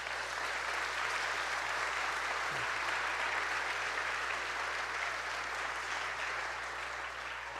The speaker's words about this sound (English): Would you give him one more round of applause?